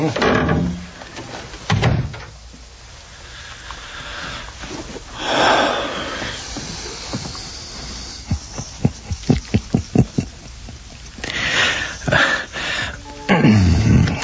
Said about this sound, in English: Here, let me get the door for you.